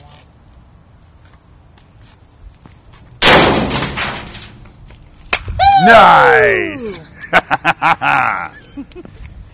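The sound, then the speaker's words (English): A glass bottle, tossed in by a person, smashes in a dumpster with one loud crash, followed by bright ringing and tinkling shards, over a steady high insect drone. A voice briefly exclaims afterward. “That shattered all to hell.”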